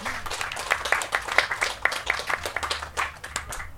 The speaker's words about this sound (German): Ein Applaus für Lorenz Ballhorn.